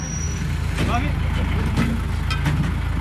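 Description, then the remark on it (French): A heavy military truck engine rumbles steadily, a deep continuous drone throughout, with people's voices speaking intermittently over the noise, as the truck drives on patrol with Lebanese armed forces through a valley in Lebanon a few hundred metres from Israel. “À pied ou en véhicule blindé siglé ONU, il patrouille pendant quelques heures avec un groupe des forces armées libanaises, les FAL.”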